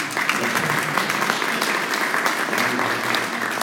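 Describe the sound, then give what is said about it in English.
At a town meeting, a crowd breaks into sustained applause after a question about border spending, a dense, steady patter of many hands clapping at a constant loud level for several seconds, with no one speaking over it. “I would applaud to that question as well.”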